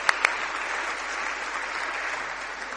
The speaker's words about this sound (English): Could I get my three models to come out and to stand on one of those plinths there at the front? Should we give them a round of applause for being brave? Because they don't really know what they're going to do here yet.